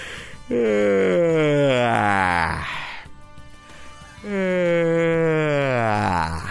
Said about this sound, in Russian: Позевайте так, ну я думаю, раз 10-15 подряд. Вполне хватит.